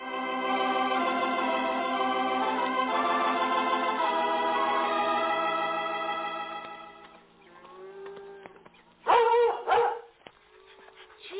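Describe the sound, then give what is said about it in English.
A sustained musical passage fades out, followed by a German shepherd's short, loud barks and whimpering yips in a quick burst near the end. “Dad was sure right about these German shepherds.”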